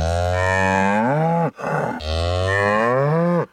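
cow mooing

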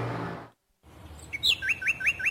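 small birds chirping

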